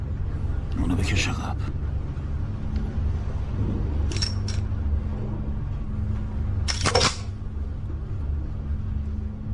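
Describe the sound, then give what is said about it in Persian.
A gun being loaded and a round chambered: three spaced bursts of sharp metallic clicks and clacks, the last one loudest, over a steady low rumble. “میدونی معنیش چیه؟ یعنی یه گلوله آماده شلیک داری.”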